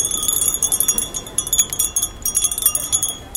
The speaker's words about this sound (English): And also in the background there's a sound of wind chimes as well.